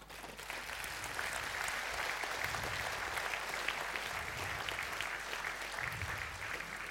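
An audience applauds steadily, a dense wash of many hands clapping at an even, sustained level for several seconds with no voices breaking through.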